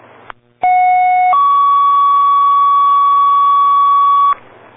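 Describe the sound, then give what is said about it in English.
A loud fire dispatch alert tone for a box alarm assignment to a reported structure fire on High Street: a steady pitched tone for under a second, then a step to a lower sustained tone lasting about three seconds, over a faint low hum. “Box alarm assignment, box 442. Responding on High Street. Waiting for the exact address. Reported structure fire. Time your tone, 2138.”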